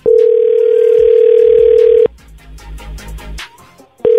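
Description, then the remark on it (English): A loud, steady telephone dial tone holds for about two seconds as a phone call is placed, cuts off into faint clicks and line noise, then the tone briefly sounds again at the end. “Okay, let's make the phone call.”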